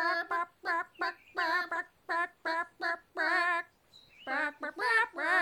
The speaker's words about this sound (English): It's always a bit of a shock for my guests when the chickens start to sing, but a pleasant one